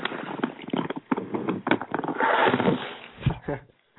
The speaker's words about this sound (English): someone's doing some heavy duty rustling there.